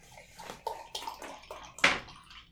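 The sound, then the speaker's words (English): Liquid pours into a glass in a few short, splashing glugs that build to one brighter gush near the end. It is fairly quiet, with no talking. “Would you like to pour it? Or... Oh, sure. It's up to you.”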